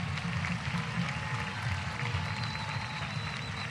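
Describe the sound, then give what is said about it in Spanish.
A large crowd in Buenos Aires claps steadily and continuously for Andrés Manuel López Obrador and his wife, a dense wash of applause at a sustained, even loudness throughout, with no voices standing out above it. “brindemos un aplauso inmenso para que se escuche en México y lo escuche mi querido amigo y compañero, Andrés Manuel López Obrador.”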